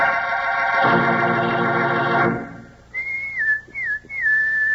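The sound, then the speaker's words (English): A person whistles a bright, sliding call, a few rising and dipping notes close by, following a loud sustained buzzy tone that cuts off abruptly. “Sounds like a pal of yours whistling for you, doesn't it?”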